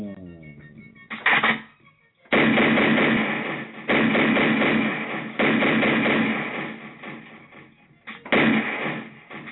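gunshot sound effect

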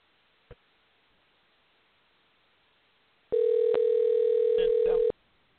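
telephone call ringing

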